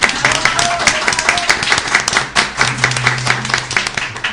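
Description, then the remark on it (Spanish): Sustained applause from a crowd, dense overlapping claps filling the whole stretch at a steady loud level, with faint voices and a brief low hum mixed underneath. “Un aplauso.”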